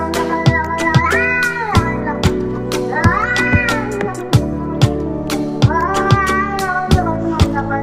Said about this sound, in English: feeding the cats.